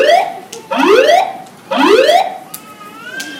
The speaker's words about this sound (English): Ladies and gentlemen, your attention please. An alarm has been activated. We are investigating the cause.